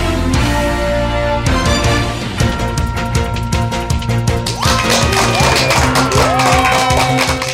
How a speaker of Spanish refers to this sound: Con esa energía positiva y esos aplausos, damos inicio a este episodio del programa Te Invito a un Café.